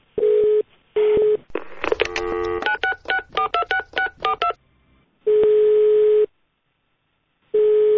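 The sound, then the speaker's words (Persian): A telephone busy tone after a call to Ayatollah Montazeri's household about his wife's funeral is cut off, pulsing in loud, steady beeps, broken by a rapid run of keypad dialing tones, then the busy beeps resume. No one speaks. “تلفن قطع می‌کند.”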